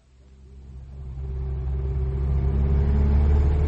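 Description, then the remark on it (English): A car engine turns over and revs, its deep rumble swelling steadily louder over a few seconds, with no one talking. “We must collect the car and be on our way.”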